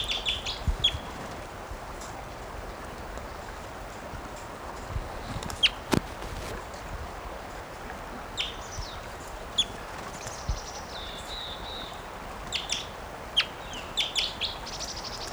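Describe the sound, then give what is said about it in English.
A bird calls repeatedly in short, high chirps and thin whistled notes, scattered irregularly over a steady background hiss, with a few sharp soft clicks; no one speaks. “Bird.”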